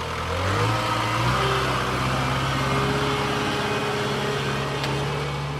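A tractor engine drones steadily, its low rumble shifting pitch as it works under load, towing caravans one after another out of a riverside meadow at a campsite as the water rises, with no voices over it.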